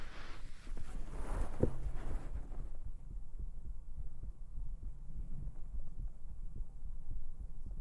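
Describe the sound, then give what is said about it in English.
A rapid human heartbeat thumps steadily, muffled through the sweater the person is wearing, with soft rustling at the start and a continuous low hum beneath the quick, regular pulses. “How can I have relaxing heartbeat ASMR if my heartbeat is so fast?”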